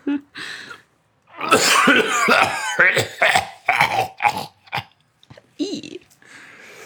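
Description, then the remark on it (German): A voice imitates a deep, rattling, hacking cough that sounds more demonic than human, in a string of harsh, gravelly bursts, loud, with short gasps between the fits. “Ein Husten, der eher dämonisch als menschlich klingt. Ein Husten aus den tiefsten und dunkelsten Ecken eines von innen scheinbar verwesenden Menschenkörpers.”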